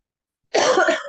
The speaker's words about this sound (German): Es hat aber gleich gehustet.